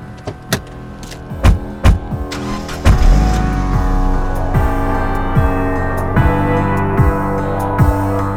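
car driving

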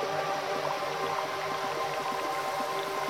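waterfall rushing water

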